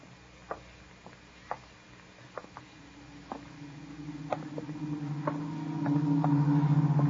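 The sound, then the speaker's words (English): Rainwater drips from the eaves in Cromer at dusk after the rain has let up, in slow, irregular plinks, a dozen or so distinct drops, while a far-off bus starting up in low gear rumbles steadily underneath. “Cromer was still after the rain. Only the sound of dripping eaves.”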